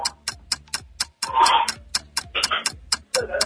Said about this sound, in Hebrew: יש טיימר? יש. תוך 10 שניות הוא צריך להגיד מה הקשר בין חנק לתוכנית שלנו.